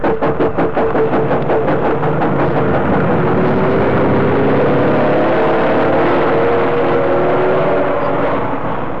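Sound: lorry engines running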